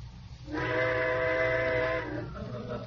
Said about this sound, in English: What was that? Trains. I suppose they're going to blow all night now. Well, go ahead, blow.